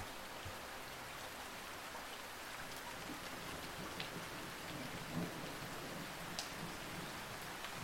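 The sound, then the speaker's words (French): Steady rain pours onto the sidewalks of a big city at night, a dense even hiss with scattered sharper drips and splashes, and a faint low rumble underneath. No voices, just continuous downpour. “Imaginez à présent la pluie qui tombe sur les trottoirs d'une grande ville, la nuit.”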